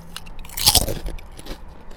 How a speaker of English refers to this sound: I was able to cross over to a different delicious snack. In fact, hang on one second. Let me just go ahead and crunch on a few more of these deliciousness.